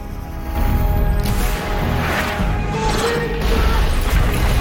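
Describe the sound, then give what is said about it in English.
A rocket fired from a bazooka explodes through the closed doors of a room with a heavy, sustained crashing roar, deep rumbling underneath and bursts of debris-like clatter, staying loud for the whole few seconds. “He slides on his knees and fires a rocket at the closed doors of the room.”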